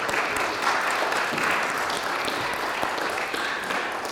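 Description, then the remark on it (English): A crowd applauds steadily after a closing prayer and blessing, many hands clapping at once in a dense, sustained wash of sound that holds fairly loud for several seconds before easing slightly at the end. “Let's give them a round of applause, huh?”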